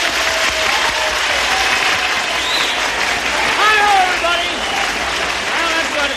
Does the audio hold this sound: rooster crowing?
no